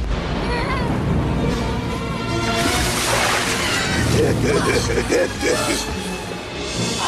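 A woman with bound wrists, released from a rope, plunges into water with a heavy splash, followed by loud sloshing and churning water under a dense, noisy background.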